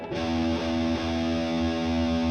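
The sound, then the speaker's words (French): A distorted electric guitar rings out with strings left unmuted by the left hand, a thick, buzzing sustained tone whose unwanted resonances keep ringing loudly for a couple of seconds without fading, with no talking. “Et tout de suite, on a des résonances qui viennent un peu gêner le truc.”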